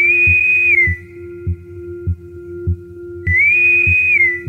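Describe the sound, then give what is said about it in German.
A frog of a newly discovered species gives a high, shrill whistling call in two long sustained notes separated by a pause, over a steady fainter tone and a regular, rhythmic low pulsing beneath. “Diese hohen, schrillen Pfeiflaute klingen wie Soundeffekte direkt aus dem Star-Trek-Universum.”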